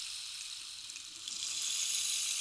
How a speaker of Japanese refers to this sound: 次はこれ。綺麗な音。まるで雨音のようだろう。これはレインスティック。